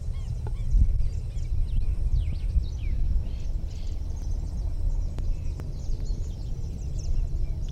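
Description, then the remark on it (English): A bird gives a scratchy, rattling alarm call, a series of harsh notes over a steady low outdoor rumble, with no one talking. “Alarm rattle of some sort, five.”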